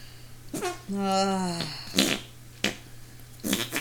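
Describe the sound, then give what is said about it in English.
Someone makes fake fart noises: a long, buzzy, tonal raspberry followed by several short, sputtering bursts spaced out over a few seconds, against a faint steady hum. “This is the whole thing as farts.”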